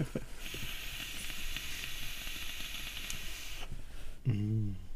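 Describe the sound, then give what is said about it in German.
A long, steady airy hiss with a faint crackle runs for about four seconds as someone draws hard on an e-cigarette, then stops and is followed by a brief low murmur. “Ich traue mich überhaupt nicht zu dampfen. Ich mache jetzt eine Dampfpause, ist mir jetzt egal.”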